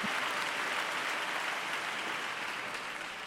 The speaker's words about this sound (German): Erst als eine Sängerin ihm dann gezeigt hat, dass er sich umdrehen sollte, da merkte er, dass alle ganz begeistert klatschten und verbeugte sich viele, viele Male.